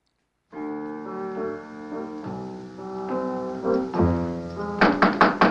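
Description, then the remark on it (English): A held musical chord plays, then near the end a quick run of about four sharp knocks on a door rings out over the music. “Who's that at the door?”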